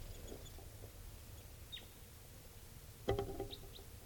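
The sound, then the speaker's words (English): A few brief tooping calls from two red crossbills: a faint high note, then a louder, fuller call near the end followed by a couple of quick chirps, over a steady low rumble with no talking. “There's tooping of a bird. I see two crossbills now.”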